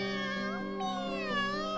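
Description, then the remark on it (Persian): A cat meows from inside a storeroom in one long, drawn-out wavering cry that rises and falls in pitch, fairly loud, with no talking. “تازه میخواستن آه بکشن و قصه بخورن که یه صدایی اومد، صدای میو میو یه گربه از توی انباری بلند شد.”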